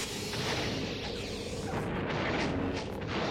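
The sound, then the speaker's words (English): Concussion arrows fired by Isana warriors exploding in a dense, steady barrage: a loud, continuous roar of booms and rumble, with a few sharper bursts standing out near the end. No voices. “Whoa, for primitives using concussion arrows, these guys have pretty good aim.”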